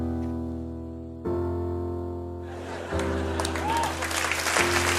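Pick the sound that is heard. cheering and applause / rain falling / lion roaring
cheering and applause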